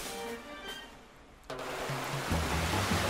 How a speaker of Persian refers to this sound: خب چند تا از دکمه رو میزنه و نقشه‌شو عملی میکنه. آب زیادی از سد میاد، همه آب سد خالی میشه.